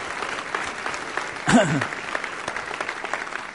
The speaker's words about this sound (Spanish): Dar un aplauso al Señor, que Él se lo merece. Qué tremendo.